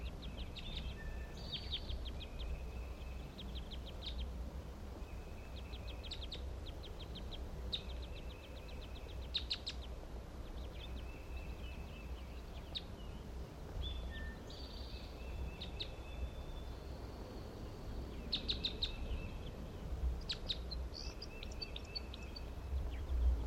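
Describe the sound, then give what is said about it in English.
Soft, high chip calls from several birds foraging in a white pine repeat irregularly throughout, brief ticking notes scattered over a steady low rumble of background noise, with no one speaking. “And 3-5 is a weak chip responding here.”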